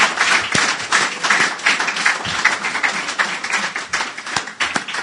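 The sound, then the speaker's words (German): Steady, dense applause from an awards ceremony audience for all the prize winners called back onto the stage, many hands clapping at once in a continuous crackling wash with a few sharper individual claps standing out, sustained at an even level throughout. “Jetzt kommt es in der Tat, wie bei der Bambi-Verleihung dazu, dass nochmal alle Preisträger auf die Bühne gebeten werden und ich Sie nochmal um einen herzlichen Applaus bitten darf für alle unsere Preisträgerinnen und Preisträger.”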